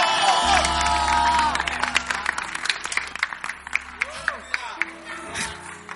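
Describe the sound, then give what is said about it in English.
A church audience claps and cheers loudly as a speaker is welcomed to give a testimony, dense applause with whoops and shouts that thins into scattered, separate claps toward the end, over a low sustained hum. “Oh, keep clapping, keep clapping.”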